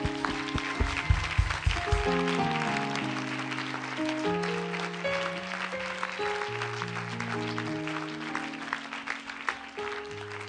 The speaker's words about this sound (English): You should clap your hands.